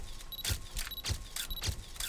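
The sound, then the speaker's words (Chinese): A camera shutter clicks repeatedly in a steady rhythm, several crisp snaps about half a second apart, each paired with a short high electronic beep, as George takes photos at a supermarket checkout in Peppa Pig. Clear, with no voices. “照片拍得差不多了，乔治。”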